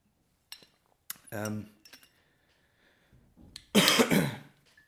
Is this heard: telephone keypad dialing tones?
no